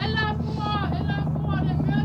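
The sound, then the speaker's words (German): A loud, steady airplane engine roars overhead from an aircraft that must land, droning without a break for the whole moment, with excited voices shouting and murmuring beneath it. “Das Flugzeug muss doch landen.”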